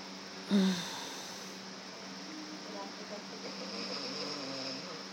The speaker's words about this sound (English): He's snoring.